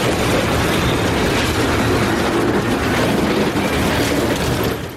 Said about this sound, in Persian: حدود 5 ماه پیش نخستین صدای ریل در استگاه روزنگ ولسوالی غوریان هرات بلند شد.